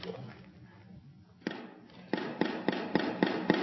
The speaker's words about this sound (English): That's applause. I don't know if you noticed that. I have one person that just thinks this is fantastic.